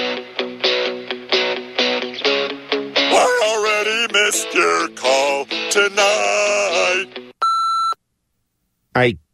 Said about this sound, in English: Leave your message when the beep is over.